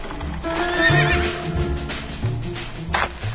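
A horse whinnies with a rising, wavering cry while hooves clop along in a steady rhythm, with carriage rumbling underneath, as a carriage escorted by horsemen travels from Tsarigrad (Constantinople). No one speaks.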